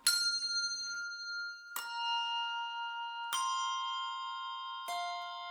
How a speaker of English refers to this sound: When you and your neighbor argue, ring two bells for peace. When someone despises you, ring three bells for love. When your heart is heavy with sorrow, ring four bells for joy.